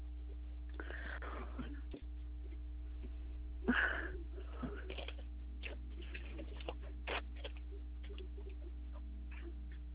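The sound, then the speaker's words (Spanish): Someone rummages around looking for a pencil: scattered small clicks, taps and rustles over a steady low hum, with one sharper clatter. There is no talking. “No tengo lápiz, tendría que esperarme para buscar un lápiz.”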